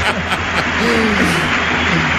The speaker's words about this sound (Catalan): A veure, aquests aplaudiments que sentiu són per Prakachin.